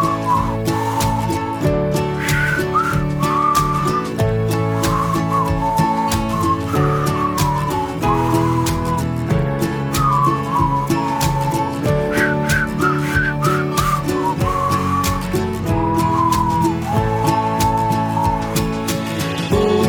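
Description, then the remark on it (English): A whistled melody glides and wavers over a full, steady instrumental backing, the tune carried at a moderate loudness for the whole stretch with no voices speaking. “if you agree, then whistle this song.”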